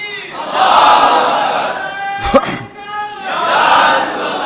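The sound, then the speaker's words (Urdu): A large crowd loudly chants a religious slogan in unison, raised in love of the greatness of the Prophet Muhammad, voices swelling together, dipping briefly in the middle, then rising again in a second forceful burst. “یہ بات ہم فرقہ واریت کے لیے نہیں کہہ رہے, نہ نعرہ لگوانے کے لیے کہہ رہے ہیں, یہ تو شوق محبت میں حضور کی عظمت میں جو لگایا اللہ اس کو اجر دے.”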